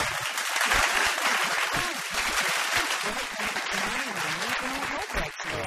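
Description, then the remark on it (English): A steady wash of applause from a studio audience on the Triple M radio show Get This, dense overlapping claps holding at an even loudness for several seconds, with faint voices and a few cheers mixed in beneath. “Another round”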